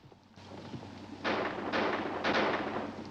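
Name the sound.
gunfire outside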